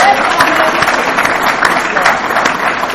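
Sustained audience applause, a dense wash of many hands clapping at a steady, fairly loud level for the whole stretch, with no pause or fade.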